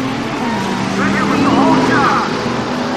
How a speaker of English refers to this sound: 6 flashing yellow lights, then a pair of green lights. The 2 cars zoom off.